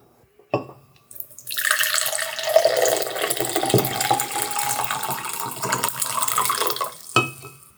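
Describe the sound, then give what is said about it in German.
Tea is poured steadily into a cup for about six seconds, a continuous splashing trickle, framed by a soft clink of crockery at the start and end. No one speaks. “Ich muss mir hier schnell ein bisschen Tee einschenken.”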